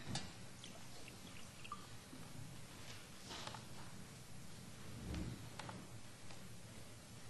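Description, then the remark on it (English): Water pours quietly into a glass for several seconds as a speaker gets some water before giving a lecture, a soft steady trickle with faint clinks and drips, otherwise quiet with no talking. “Get some water first.”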